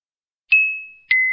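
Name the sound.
doorbell ringing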